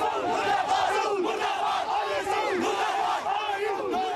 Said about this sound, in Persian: صدها مسلمان شیعه در جاده های سرینگر مرکز کشمیر تحت کنترل هند در حالی که عکس های شیخ نعم را حمل می کردن فریاد اعتراض علیه عربستان سعودی سر.